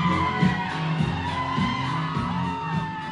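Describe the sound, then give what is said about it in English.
A crowd at a drag king show cheers and whoops loudly and continuously as drag king Johnny Mozzarella takes the stage and the audience rises to its feet, with overlapping shouts and yells forming a dense, sustained roar of excitement throughout. “When Johnny Mozzarella takes the stage, the crowd rises to its feet.”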